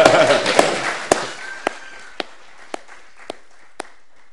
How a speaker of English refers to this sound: He got married on Sunday. A round of applause.